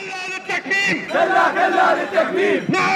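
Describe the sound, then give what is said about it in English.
A crowd of Iraqi journalists and press freedom advocates protesting in Baghdad's book market, Iraq, against a proposed law to block websites, chants loudly in unison, voices rising and falling in a steady rhythmic cadence with brief pauses between shouted phrases. “Last week, Iraqi journalists and press freedom advocates poured into Baghdad's book market to protest.”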